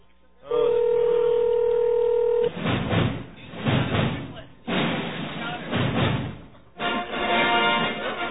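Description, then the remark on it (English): A steady telephone dialing tone hums for about two seconds as a call is placed, then gives way to muffled, phone-line voices talking in bursts with brief pauses, moderately loud. “That's when we usually phone him.”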